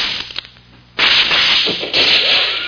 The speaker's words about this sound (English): Oh, for the love of Pete. That shot smashed my rifle to bits.